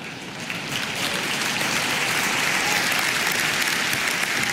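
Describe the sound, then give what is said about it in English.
Sustained audience applause in Finland, a dense, steady wash of many hands clapping that swells slightly in the first half second and holds at an even, fairly loud level throughout, with no talking. “But the reason you laughed and clapped is because you know it's not.”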